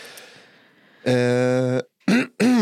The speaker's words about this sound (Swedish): Hostharklade någon plötsligt bakom mig.